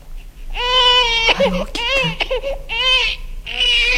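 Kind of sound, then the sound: human body sound, baby crying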